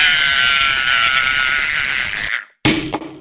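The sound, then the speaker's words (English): A faulty vacuum cleaner that won't turn off runs loudly with a steady, harsh whining roar for about two seconds, then shuts off abruptly into silence, followed by a short rustling noise. “You sold us a bad vacuum because the vacuum won't turn off.”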